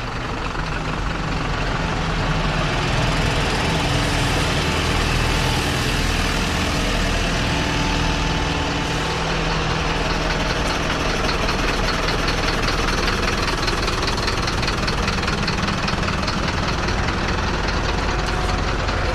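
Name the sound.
trucks arriving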